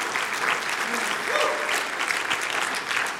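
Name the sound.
audience applauding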